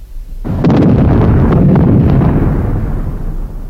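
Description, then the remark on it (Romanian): Artillery shells, fired on command, explode in a heavy, rumbling barrage: a sudden loud blast followed by sustained booming and crackling detonations that roll on without pause, with no voices. “Două gradații stânga, încadrați cu patru obuze. Foc!”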